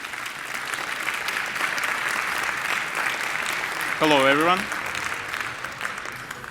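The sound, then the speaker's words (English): Steady audience applause fills the room, a dense wash of clapping that continues throughout, with a man briefly greeting the crowd over it partway through; the audience welcomes the next speaker of a talk on hacking Sony PlayStation Blu-ray drives. “Please welcome, with a very warm applause,”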